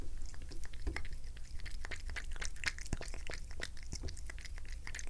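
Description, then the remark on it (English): A cat named Tobster laps water from a bowl, a steady run of quick, soft, irregular wet clicks and smacks over a low background hum, with no one talking. “Here, let's listen to the kitty drink.”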